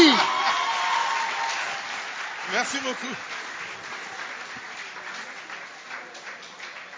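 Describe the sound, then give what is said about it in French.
An audience applauds steadily for several seconds for radio Kapi at a handover ceremony between university rectors, a dense wash of clapping, while a voice briefly speaks over it near the middle. “Applaudissez très fort la radio Kapi!”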